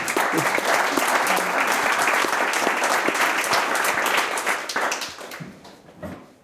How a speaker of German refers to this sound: Wirklich, Applaus für dich.